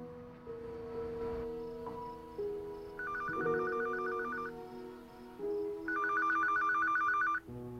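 A telephone rings twice in rapid trilling bursts, each lasting over a second with a pause between, clear over a soft, sustained musical background.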